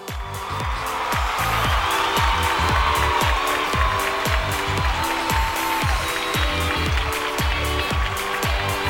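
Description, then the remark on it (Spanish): Loud, sustained applause and crowd noise for performers costumed as the gods of Olympus, Zeus, Neptune and Hades, fill the whole stretch, with a steady, rapid thumping beat pounding underneath the clapping throughout. “¡Un fuerte aplauso!”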